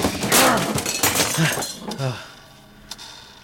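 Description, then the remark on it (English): A clock is smashed, glass shattering in a loud burst of crashing and tinkling shards, with voices shouting over the breakage, then the debris settles into a few faint clinks. “Oh, die, clock!”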